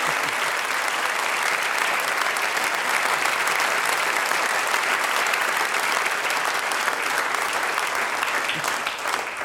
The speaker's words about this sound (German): Dann sage ich ganz herzlich Dankeschön und ihr kriegt einen ganz großen Applaus. … und der …, danke herzlich.